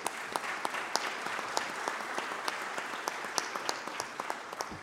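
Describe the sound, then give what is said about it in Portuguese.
Steady applause from many people at a formal city council session, given for councillor Fran Silva, a dense crackle of clapping with sharper individual claps popping out irregularly, holding at an even level throughout with no talking. “Uma salva de palmas aí para o vereador Fran.”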